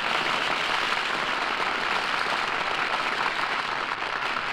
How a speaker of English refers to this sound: Hear that applause? Oh, they loved it, Jane.